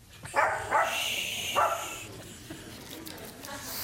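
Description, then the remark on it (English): A small Yorkshire terrier lets out three sharp, high-pitched yaps in the first couple of seconds, followed by a faint hiss of background noise with no further barking. “I've had Yorkies. Certainly isn't intimidated by surroundings.”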